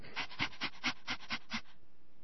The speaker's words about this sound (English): Okay. Puppy sounds. Yeah, I'll scratch your belly too, Agnes.